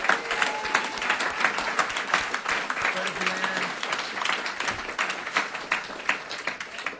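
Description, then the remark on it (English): A crowd applauds a banjo player steadily for several seconds, dense overlapping claps filling the space at moderate loudness, with a few faint voices and whoops mixed into the clapping. “Pretty good applause for a banjo player.”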